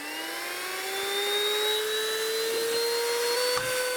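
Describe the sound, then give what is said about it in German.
A vacuum cleaner runs steadily with a loud motor whine and rushing airflow, its tone creeping slightly higher over a few seconds, with a brief clunk near the end and no voices. “Oh, jetzt wird ja richtig schwer schon, dein Staubsauger.”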